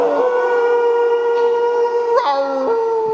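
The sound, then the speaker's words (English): Several human voices join in one long, sustained group howl in a howling exercise, imitating a wolf or dog, holding steady pitches for about three seconds with a brief rise and wobble near the end. “So that's howling.”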